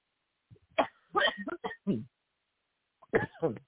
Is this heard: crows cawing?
no